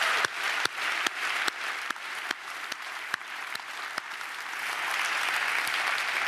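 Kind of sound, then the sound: crowd, audience applause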